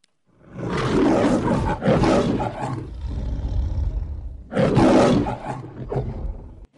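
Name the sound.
lion roaring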